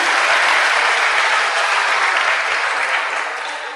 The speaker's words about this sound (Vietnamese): Cho nên cho một tràng pháo tay khen tất cả các em.